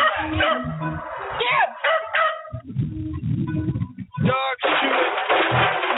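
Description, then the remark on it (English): Several terriers bark, yip and whine in a frantic, overlapping chorus during a nighttime rat hunt downtown in New York City, with bursts of high yelps and indistinct human voices mixed into the commotion. “But at night, when the sun goes down, the members of the rats congregate downtown with their dogs, and they go on a rat hunt in New York City.”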